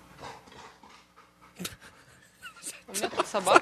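A dog in a studio pants in quick, breathy bursts, the huffing growing louder toward the end, where high, thin whimpering whines rise over the rapid breathing.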